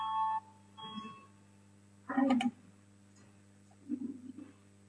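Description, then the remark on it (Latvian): In a parliament, a short, bright electronic bell tone rings at the start and fades, followed by a thump and a low murmur of voices. The bell is rung to call deputies to vote on a deputy's proposal. “Lūdzu zvanu, balsosim par 20.”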